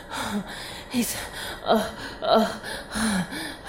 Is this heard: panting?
yes